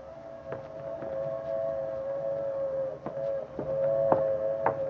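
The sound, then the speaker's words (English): A passenger train moves swiftly through a valley at dusk as its whistle holds one steady, mid-pitched tone throughout, with sharp wheel clacks breaking in at uneven intervals over a low rumble. No one speaks. “In a valley below, a passenger train moves swiftly through the dusk.”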